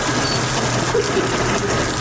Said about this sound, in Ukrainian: Бо коли було включалося, то воно вже журчало би. Вода.